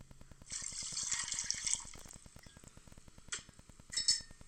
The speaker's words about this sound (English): Let me pour myself this glass before I get started.